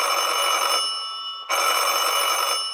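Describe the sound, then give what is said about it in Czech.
An electric doorbell at a front door rings twice at midnight in quick succession, each a harsh, rattling metallic jangle lasting over a second, separated by a brief pause. No voices accompany it. “To se rozdrnčel zvonek u dveří s výrazným nápisem Mudr Čeněk Dobešek.”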